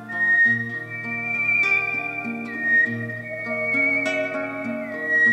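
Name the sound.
human whistling a melody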